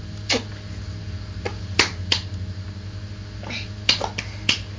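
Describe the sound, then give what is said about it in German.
A mother gives scattered hand claps for a child, about eight sharp slaps in an uneven rhythm with short gaps between them, over a steady low hum. No one speaks. “Mami klatschen. Bravo.”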